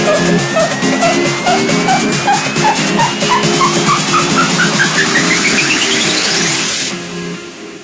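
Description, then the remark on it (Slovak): An Isuzu vehicle engine revs up loudly and steadily, its whine climbing in pitch as rhythmic pulses quicken, then cuts off abruptly just before the end, leaving a faint rumble. “Pararam pra reparar, estão ouvindo esse som. Isuzu do Gora.”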